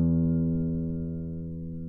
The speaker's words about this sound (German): Als nächstes haben wir einmal ein E von einer Gitarre.